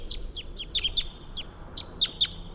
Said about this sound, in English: The wild bird took off. I can still hear him calling a long distance away though.